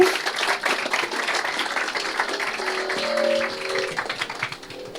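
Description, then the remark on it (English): A crowd applauds steadily at the end of a talk on floating point and writing a slicer, a dense patter of many hands clapping at once that carries on throughout, with a brief faint tonal sound rising partway through before the clapping thins toward the end. “Yeah, you can applaud.”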